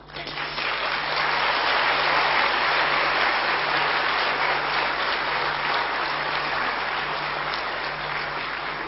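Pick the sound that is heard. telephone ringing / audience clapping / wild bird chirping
audience clapping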